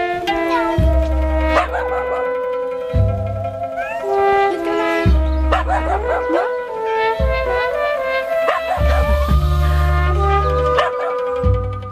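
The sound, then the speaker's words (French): Stray dogs in Florence, Italy, bark and whimper in short, irregular bursts, with a few higher whining cries, over a steady musical backing with deep sustained bass notes. “Les Italiens aiment particulièrement les animaux de compagnie, ce qui n'empêche pas la multiplication de chiens errants dans les villes.”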